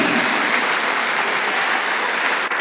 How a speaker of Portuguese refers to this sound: Da un aplauso para el Señor.